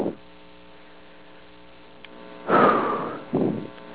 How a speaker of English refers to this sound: There goes the washing machine. Washing my clothes. Because they're dirty. And I like them clean.